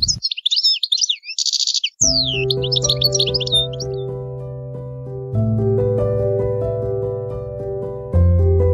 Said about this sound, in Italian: un passerotto che è diventato il simbolo dell'associazione di Rim. Proprio come le donne, l'uccellino continua a volare e cantare